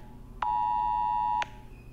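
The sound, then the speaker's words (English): A phone emergency alert sounds a single loud electronic beep, a steady pitched tone lasting about a second and starting and stopping abruptly, with quiet background and no talking; the phone keeps re-sending the alert unless its OK button is pressed. “So apparently, in addition to my phone being blanked, having a blank screen if I don't hit the OK button, it will keep sending the alert. So I just got another alert.”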